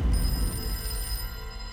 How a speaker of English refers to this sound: But at 10:41 a.m., the phone rang for a second time.